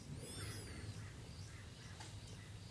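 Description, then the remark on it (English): Faint, thin bird calls chirp a few times early on outdoors, over a steady low rumbling background hum. “Make sure the mind stays with the breath, doesn't go wandering off after the sound of the birds, the sound of the construction.”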